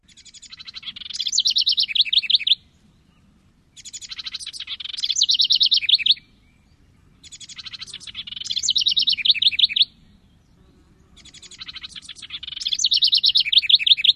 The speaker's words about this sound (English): I promised everybody bird sounds. So this is from a house wren in Maryland.